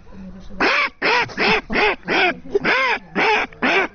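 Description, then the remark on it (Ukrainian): A person imitates a mother duck's quacking with their voice, about eight loud, nasal quacks in a quick, steady rhythm, with no other sounds. “А мама утка.”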